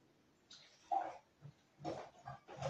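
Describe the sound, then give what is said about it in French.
A young lamb, about a month old and bottle-fed, bleats in a series of short, nasal cries, fairly loud, with brief pauses between them and no voices. “a un petit mouton depuis un mois qu'on lui a donné, que la maman ne voulait plus allaiter, etc.”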